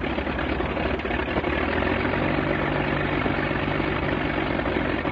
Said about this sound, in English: This engine is a 180 horsepower Mercedes six-cylinder engine, the most famous of all the aircraft engines used by the Germans during World War I.